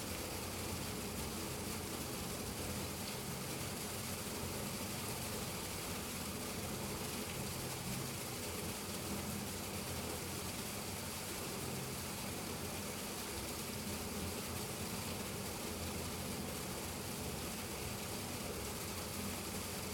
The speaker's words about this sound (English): The sound is from a drain pipe.